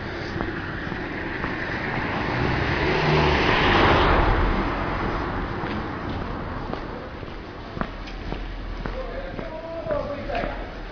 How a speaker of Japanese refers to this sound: あ、車が来た。